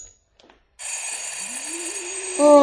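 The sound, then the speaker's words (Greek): A bell rings out in one long, unbroken electric trill, starting abruptly after a short near-silence and growing louder just before the end, with no voices. “Άνοιξε το κουδούνι!”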